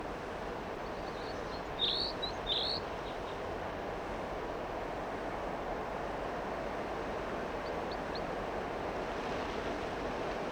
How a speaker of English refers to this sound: The wind is blowing pretty much